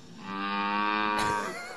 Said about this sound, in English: Big old cow.